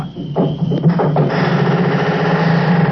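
A drawn-out, high-pitched squeak of a barn door swinging on its hinges, starting thin and whining, then turning into a rough, grinding creak that carries on steadily.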